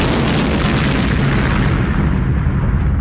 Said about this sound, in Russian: Остров затрясся. Оглушительный взрыв раздался на вершине вулкана, и из кратера вырвалось облако удушливого газа.